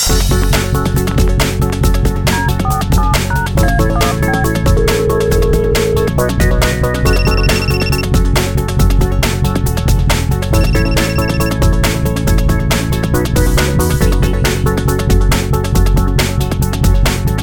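A telephone ringing tone sounds in short repeated bursts while a phone call connects during a Radio Wnet broadcast, partly buried under a loud, steady music bed that plays throughout.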